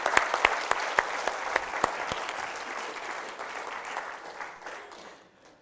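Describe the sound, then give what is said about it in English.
An audience claps steadily, a dense patter of many hands with a few sharper individual claps standing out early on, before the applause gradually thins and fades out by the end. “But first, give these guys a big round of applause.”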